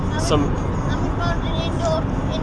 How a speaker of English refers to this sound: I'm driving back from Milton Keynes with two children in the back of the car.